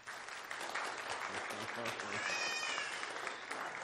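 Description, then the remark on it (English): An audience at the Valley View Seventh-day Adventist Church clapping together in steady, sustained applause to vote in favor of accepting a new church member, with scattered voices and cheers mixed into the dense patter of hands. “All in favor, clap your hands.”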